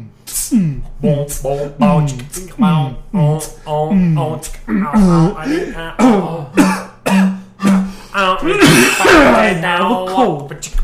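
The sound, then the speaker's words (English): A rapid series of voiced coughs and throat clearing, loud, repeating in short bursts for about eleven seconds with hardly a pause between them, caused by a drip in the throat. “there's a drip in my throat.”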